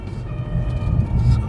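An ambulance siren sounds in steady tones over a low rumble of traffic, moderately loud, holding through the short moment as it approaches.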